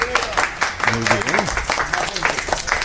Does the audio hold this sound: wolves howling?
no